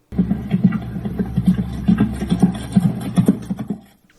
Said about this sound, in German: Das Pferd galoppiert im Endeffekt geradeaus, also es ist gar keine Lektion, die es macht.